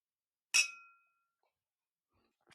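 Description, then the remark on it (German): A single bright clink of glasses in a toast rings out with a short shimmering decay, followed by near silence and a faint rustle at the end. “Auf. Die Liebe. Den Motor. Und Antrieb. Für alles. Prost, ihr Süßen.”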